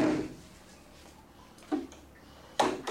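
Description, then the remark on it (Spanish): The door of a bathroom stall marked number 2 swings shut with a soft clunk as Arquímedes goes back in, followed a moment later by a second, sharper knock of the latch. Fairly quiet, with no voices. “Arquímedes entra de nuevo cerrando la puerta tras de él.”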